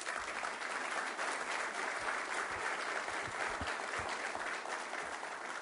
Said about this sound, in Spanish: Así que les pido fuerte aplauso.